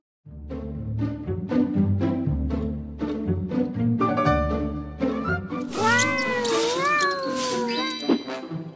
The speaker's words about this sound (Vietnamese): Xem ra con mèo này là khá hơn cả. Từ ngày có nó, kho thóc tuyệt nhiên không có bóng dáng con chuột nào.